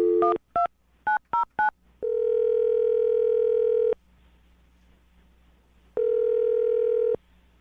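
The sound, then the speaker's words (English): A quick burst of five or six telephone keypad beeps as a phone number is dialed to call a woman, then a steady dial tone that sounds for about two seconds, pauses, and comes back once more. Clear, with no talking. “Well, I'm going to dial the phone right now and get her on the phone.”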